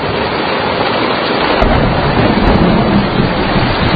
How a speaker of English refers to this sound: come on in out of the rain, would you?